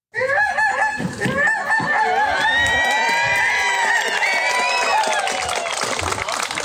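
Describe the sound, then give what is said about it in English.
Many voices honk and squawk in imitation of goose calls in Kotzebue, Alaska, as a Fourth of July celebration, overlapping into a loud, continuous chorus of rising and falling cries with crowd noise underneath. “Or imitating goose calls in Kotzebue.”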